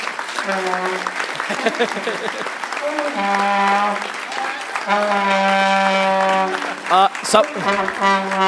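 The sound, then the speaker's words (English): An audience applauding steadily and loudly for several seconds as thanks for the AV crew's hard work, the dense clapping mixed with sustained cheering and whooping voices that swell near the end. “Let's give them a round of applause for all the hard work they've done.”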